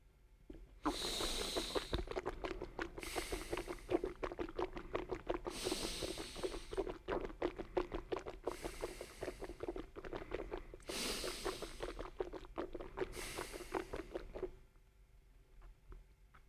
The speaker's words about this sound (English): Wash your mouth with water while sniffing air in and out through your nose.